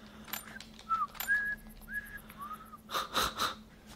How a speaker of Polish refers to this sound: Umiem gwizdać.